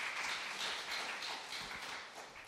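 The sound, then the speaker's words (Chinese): Steady, dense applause from a crowd at a gathering, welcoming newcomers who are students; a continuous crackle of many hands clapping at once, fairly loud and even throughout with no voices over it. “让我们用友善的笑容，还有热烈的掌声欢迎他们，好不好？”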